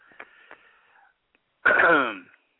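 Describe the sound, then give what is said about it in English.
A faint breathy wheeze with a couple of small clicks, then a brief pause and one loud, raspy, voiced throat clearing by a man, lasting under a second. “I'm clearing my throat and acting like I'm in, going to say something really, really great, but that's not the case.”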